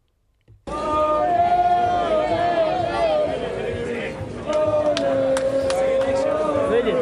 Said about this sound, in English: And after cheering their team off the pitch in a full Aviva stadium, they were only too happy to talk to our reporter